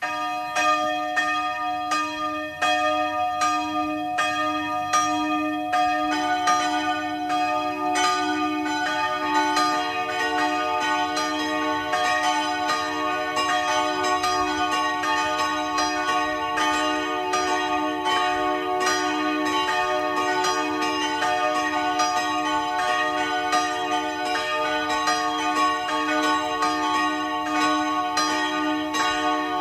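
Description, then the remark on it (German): Church bells of the branch church of Rohr im Burgenland ring at 12 noon, several bells overlapping in a dense, sustained peal with long humming resonance; no voices, the ringing steady and full throughout. “Sie hören die Glocken der Filialkirche von Rohr im Burgenland.”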